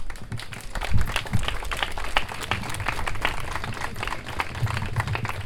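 An audience applauds steadily, a dense wash of many hands clapping at fairly even loudness, with occasional louder individual claps standing out.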